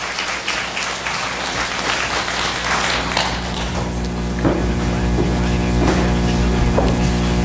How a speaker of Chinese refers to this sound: 让我们掌声献给神。